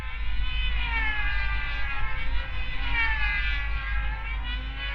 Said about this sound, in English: There's some jets that have really scary noises. They're 8 foot long, these things. I saw one take off and it was really like I was on a military base.